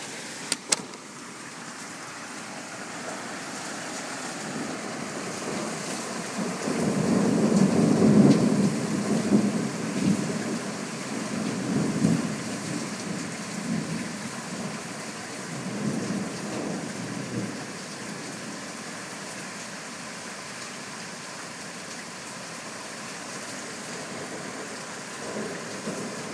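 thunderstorm with heavy rain

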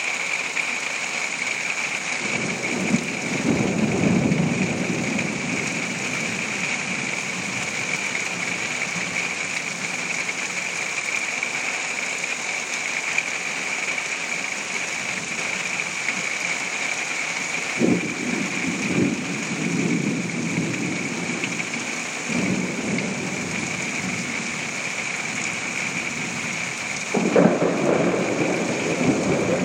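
thunderstorm with heavy rain

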